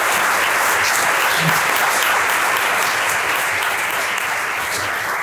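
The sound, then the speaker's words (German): Sustained applause from an audience, a dense wash of many hands clapping at steady loudness for several seconds, with no one speaking over it. “Genau, ich kann da nochmal einen Applaus geben.”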